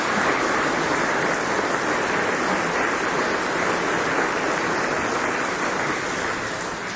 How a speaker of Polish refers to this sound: Wielkie brawa!